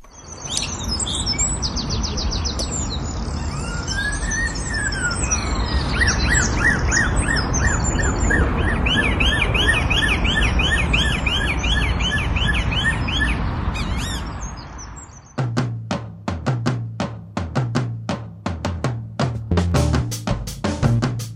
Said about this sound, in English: the male blackbird had spent hours patiently observing the cars in order to replicate their noise